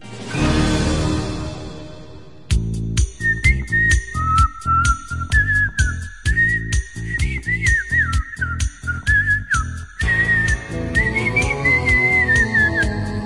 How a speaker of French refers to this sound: Je siffle comme un pied, mais est-ce que les pieds savent siffler?